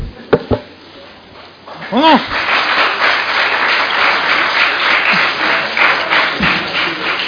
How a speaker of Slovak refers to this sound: Čo mu tleskajú?